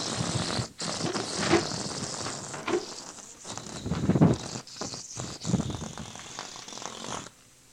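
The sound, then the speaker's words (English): A balloon, let go by hand, deflating as it flies around a room, a raspy, fluttering buzz that sputters and wavers in loudness for about seven seconds before cutting off abruptly. No voices. “I have another balloon here that I'm going to let go. Watch it as it flies around the room.”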